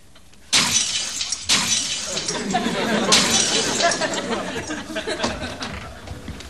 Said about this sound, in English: What did you do? Smashed a porcelain cat collection.